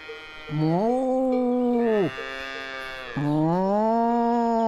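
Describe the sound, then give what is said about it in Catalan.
A person imitates a cow mooing while watching a herd of grazing cows: two long, drawn-out low moos with a rising, wavering pitch, separated by a brief pause, fairly loud with no other talk. “Caram, …, saps parlar com una vaca.”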